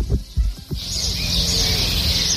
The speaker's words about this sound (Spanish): Algún pajarito, un coche de lejos. Estamos en Camarenilla. Es un pueblo de Toledo con 500 habitantes.